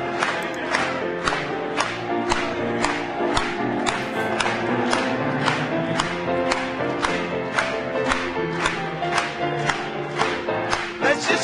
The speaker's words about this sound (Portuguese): Vamos bater palmas para ele mais uma vez.